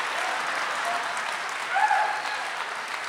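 An audience applauds the speaker's mother, who is sitting in the front row. Dense overlapping clapping holds an even level throughout, with a brief faint vocal call rising slightly above it partway through.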